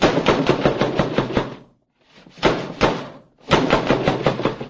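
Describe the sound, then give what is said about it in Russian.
Loud knocking on a door in three quick bursts of rapid raps, separated by short pauses, with no voices. “Вдруг опять раздался стук.”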